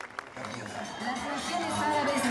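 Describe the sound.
An outdoor crowd at a solemn ceremony outside a synagogue applauds in a steady, dense wash of clapping, mixed with cheering voices and general crowd hubbub, fairly loud and sustained throughout.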